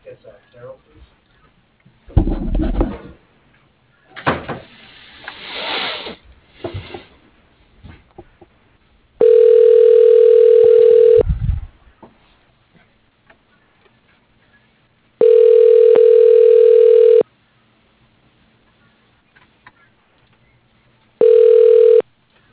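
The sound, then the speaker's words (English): A telephone ringback tone, heard while a call to the company FCI is being transferred, purrs in steady two-second bursts separated by longer silences. There are three rings, the last cut short, after some brief muffled voices and line noise at the start. “Let me transfer you.”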